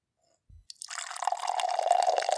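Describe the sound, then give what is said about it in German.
A soft low knock, then a foamy drink from a can pours steadily into a glass, a fizzy hiss building as a gurgling fill tone rises slightly while the glass fills. No one speaks. “So, dann schenken uns wir mal ein. Mach doch mal wieder für die Zuschauer so ein bisschen Ohrenkino. Eine Schaumparty.”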